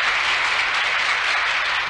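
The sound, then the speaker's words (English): Steady, dense applause from a large audience in a comedy theater as the conductor acknowledges it before a performance of The Single E, many hands clapping at once in a continuous wash of sound, fairly loud and even throughout with no voices standing out. “A spot picks up the conductor, who acknowledges the applause.”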